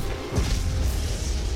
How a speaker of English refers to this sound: The Berenian explodes out of the smoke. Blaster cannon fire rips through the gunship.